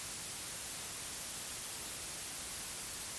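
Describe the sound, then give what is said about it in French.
Steady white noise hisses evenly for a few seconds, a broad, unbroken static wash at moderate loudness with no voices or other sounds. “Fais comme si tu parlais au ralenti et laisse le bruit blanc entrer dans ta bouche.”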